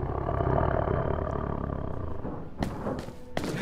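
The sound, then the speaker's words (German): A deep, rumbling tiger roar from a video game fills the whole stretch, loud, with a couple of sharp thudding impacts near the end, as a lever is pulled to release the tiger into the level. “Just pull the lever and let's say introduce the tiger to the level.”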